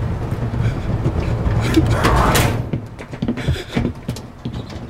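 A door rolls shut with a rising whoosh that ends in a solid thud, followed by a few clicks and knocks, all over a steady low engine rumble.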